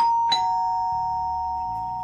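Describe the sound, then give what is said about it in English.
A doorbell rings once, a clear bright chime struck sharply and left to hum steadily for a couple of seconds, fairly loud, with no voices. “It was just getting interesting when Katie's mum rang the doorbell to pick her up and drive her home.”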